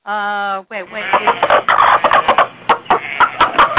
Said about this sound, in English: Oh, my God, it's the chickens.